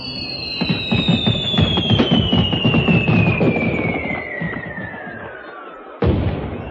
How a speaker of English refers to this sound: Start the fireworks. Get going. Light the touch papers.